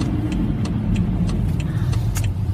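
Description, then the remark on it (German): A car drives over rain-wet roads: a steady, deep engine and road rumble with a constant wash of tyre hiss and a few faint, brief ticks scattered through it. No one speaks. “Ich weiß übrigens gar nicht, wenn ich hier so durch diese regennasse, über diese regennassen Straßen fahre, ob das audiotechnisch eine Katastrophe ist.”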